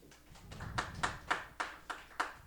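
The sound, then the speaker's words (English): A short burst of audience clapping in response to a call to clap if they believe in aliens, with a few soft claps building into about six sharp, evenly spaced claps in a steady rhythm. No one speaks. “Clap it up if you believe in aliens, right?”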